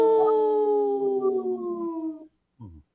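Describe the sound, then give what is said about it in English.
A single long, loud wolf howl, sliding slowly downward in pitch for about two seconds, followed by a brief, softer yip or short howl after a pause. “This portion of the show is supported by Howling for Wolves, protecting wolves for future generations. Ow!”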